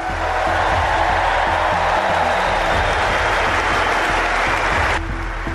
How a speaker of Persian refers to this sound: تماشاگران حاضر در سالن مسابقات بعد از اعلام نام اسطوره تنیس چندین دقیقه ایستاده تشویقش کردند.